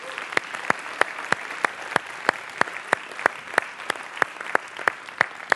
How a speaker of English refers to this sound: If you got anything from God, give him a hand clap of praise.